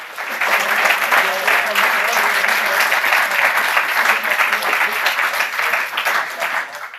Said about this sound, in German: Erstmal ein Applaus soweit für das erste Projekt des Teams.